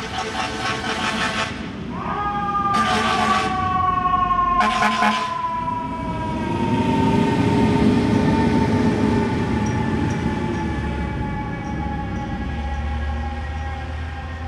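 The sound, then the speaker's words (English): A New York City fire truck siren, recorded from an apartment on July 14, 2016, wails with an odd, warbling, sliding tone over steady traffic rumble, with a few short horn-like bursts early on, loud, then slowly fading. “here is a thing that I call Freaky Fire Truck.”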